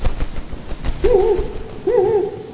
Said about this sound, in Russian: Но это для нас с вами объект был бы неопознанным. А Пятачок сразу понял, что это сова. Поскольку сова была единственным в его лесу существом, способным летать.